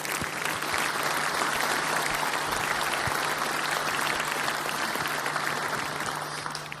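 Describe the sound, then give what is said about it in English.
A conference audience applauds steadily for about seven seconds to welcome a speaker, a dense, even wash of many hands clapping at a constant loud level with no voices on top. “Please give him a warm round of applause to welcome him.”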